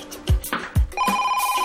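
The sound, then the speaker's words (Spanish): A couple of dull thumps give way to a telephone ringing, a steady, fluttering electronic tone that starts abruptly and continues, clear, with no talking. “Una llamada interrumpe la tranquilidad.”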